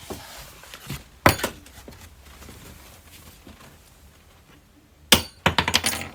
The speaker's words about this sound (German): Oh, was ist denn da runtergefallen? Ist ein Schlüssel runtergefallen.